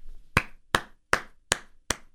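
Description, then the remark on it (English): Five sharp hand claps land at a steady, deliberate pace, each one crisp with a short ringing tail, and no voices around them. “Slow clap for Panda Express.”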